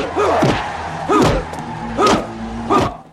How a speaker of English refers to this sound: The inmates cheer at the fight. Both men land punches.